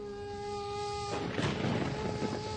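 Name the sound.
thunder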